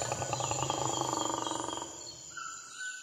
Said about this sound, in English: That sounds like the roar of a jaguar. So you were right, Blippi. It is a big cat.